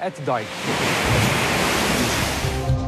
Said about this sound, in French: Derrière ce panneau à vagues, on a 6 gros cylindres qui le poussent d'avant en arrière avec 200 barres de pression. Les vagues de 2 à 3 mètres traversent tout le canal et s'écrasent au niveau de la digue.